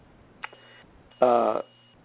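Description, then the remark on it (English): A phone line connects a caller from area code 727 to a radio call-in program: a sharp click, a brief pause, then a short, buzzy, band-limited tone lasting under half a second, with no talking. “Shall we turn to the phone calls?”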